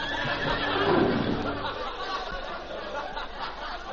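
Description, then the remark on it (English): A cowboy's horse, ridden back to Poison Creek and told to whoa, lets out a loud, rough whinny lasting about a second and a half, then it fades into a steady hissing background with no voices. “I'm sorry, horse.”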